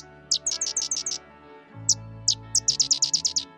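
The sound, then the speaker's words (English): A sedge wren, a marsh bird, sings rapid dry chattering bursts: a quick run of sharp high notes, a pause with a couple of isolated chips, then another fast stuttering series, clear over faint low background hum. “Great Lakes Audubon has identified a dozen regions of coastal wetlands to protect and restore in a new plan to help 14 marsh birds, including the sedge wren.”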